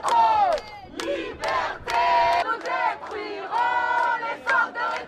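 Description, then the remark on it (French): A crowd of protesters at a march for freedoms against far-right ideas in France, held in several French cities including Paris, chants in unison, loud rhythmic bursts of many voices rising and pausing roughly every second, with a brief gap before the chant resumes. “Une marche des libertés contre les idées d'extrême droite a eu lieu dans plusieurs villes de France, dont Paris”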